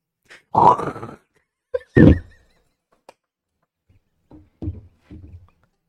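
A person gags in a few harsh, throaty retching bursts: two strong heaves early on, then weaker, shorter choking sounds trailing off, with no talking.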